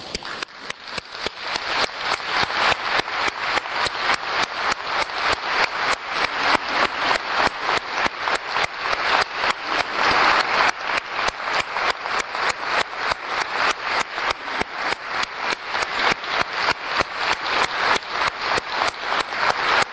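A crowd applauds steadily, many hands clapping in a dense, continuous patter that stays loud and even throughout, with no voices standing out above it.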